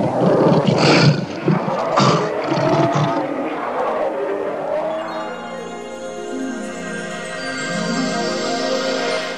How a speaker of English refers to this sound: Uh-oh, what's that coming over there? It's the lion! Get out of here!